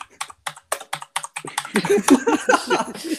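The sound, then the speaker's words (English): Loud, clacky typing on a comedy keyboard, bought as the loudest one available, while typing a search for wind scale: a run of sharp key clicks in an uneven rhythm, then a voice begins talking over the continued keystrokes. “there's his comedy keyboard.”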